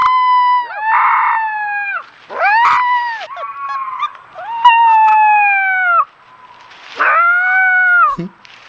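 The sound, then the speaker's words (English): A four-week-old Minnesota wolf pup in the wild, in the woods, howls its first howls in a string of about six short, high-pitched, wavering calls. The calls are loud, with brief pauses between them and no talking. “This is a four-week-old wolf pup learning to howl.”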